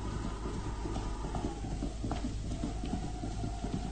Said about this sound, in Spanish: ¿Escucharon? Sí. El galope de un caballo alejándose.